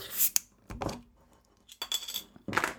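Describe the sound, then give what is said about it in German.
Metallic clinks and scrapes as a bottle opener works a metal cap off a bottle of porter beer, several sharp bursts spaced across a couple of seconds, ending with a brighter rattle. “Und zwar, da brauche ich mal wieder einen Öffner.”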